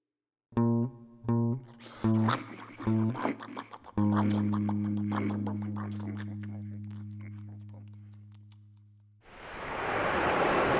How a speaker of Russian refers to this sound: Вставайте, вставайте, кругом вода. Море. Мы плывем по морю.